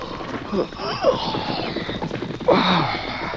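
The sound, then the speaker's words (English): Two riderless horses approach a camp at night under a full moon, their hoofbeats in a steady, quick clip-clop rhythm, growing a little louder, with a few higher vocal-like sounds rising over the trotting. “Hearing approaching hoofbeats, Dan yawned and sat up.”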